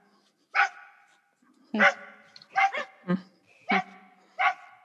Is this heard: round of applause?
no